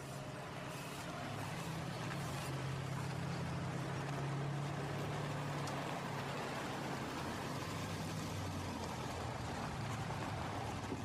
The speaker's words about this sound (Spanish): Dos autos llegan al barrio. Uno es el de la policía.